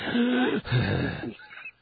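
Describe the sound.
A voice imitates heavy mouth breathing: a couple of raspy, wheezy exhales with a throaty edge, loud and continuous for under two seconds.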